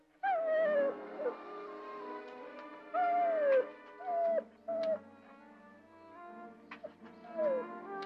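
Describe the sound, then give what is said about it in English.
An injured dog with a hurt leg, bruised near the shoulder, whimpers: about half a dozen high, thin whines that slide downward in pitch, coming in uneven bursts with short pauses between, and no one talking. “what's the matter? She's hurt her leg.”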